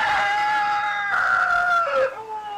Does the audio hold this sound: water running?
no